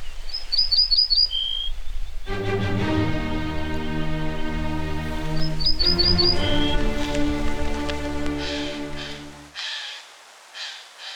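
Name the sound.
songbird singing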